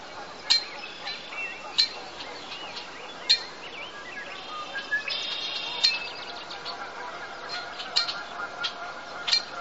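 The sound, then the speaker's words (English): A redwing blackbird from Dawson Creek gives sharp, metallic clinking calls at uneven intervals, its whistled notes turned into a mechanical clink, mixed with brief high chirps and buzzy notes over a faint outdoor hiss. “The whistle has become a mechanical clink, rather like the sound made by a blacksmith's hammer on an anvil.”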